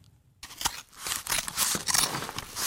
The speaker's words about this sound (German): Die Modedesignerin Katrin Rieber zerschneidet gerade Stoff. Das wird Futter für die Fluffy Puffy Shopper.